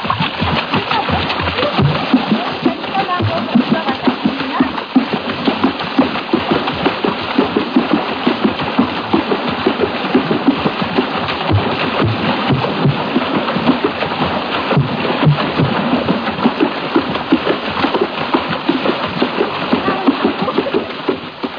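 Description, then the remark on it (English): Rhythmic African water drumming from the Gabun area of French Equatorial Africa: dense, continuous splashing and slapping of water in a steady driving pulse, loud, with faint voices mixed underneath throughout. “If some of that sound seemed to resemble splashing water, that's exactly what it was. This was African water music, not to be confused with a suite of the same name by George Frederick Handel.”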